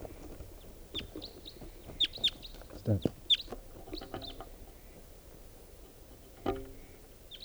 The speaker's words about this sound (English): 11:32 now. There's another wild bird coming in.